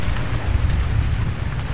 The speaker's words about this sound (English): Oh, not again. Raining stair rods.